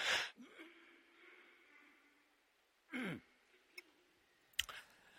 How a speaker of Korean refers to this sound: 제가 이렇게 기침을 할 때는 늘 이유가 있죠. 조는 사람이 있을까 봐 깨우는 거예요.